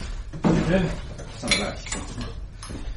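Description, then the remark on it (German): Drinking glasses for Scotch whisky are set down one after another as they are handed out to guests, making several bright clinks and knocks at irregular intervals, with a faint voice murmuring in the background. “Ach so, ich habe noch gar keine Gläser gegeben.”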